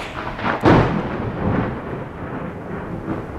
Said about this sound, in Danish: Det knager og brager. Skabningen udsættes for lynnedslag, og borgen bliver sunket ned fra hullet i loftet.